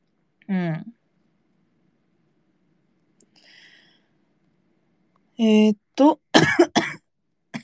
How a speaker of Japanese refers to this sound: もうめっちゃマイクに思いっきり咳かかってると思うねんけど。うるさしですね、今日。咳が。